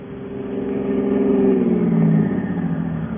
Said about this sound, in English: What's the matter? Something wrong with the car. Why don't you get out and look at the motor?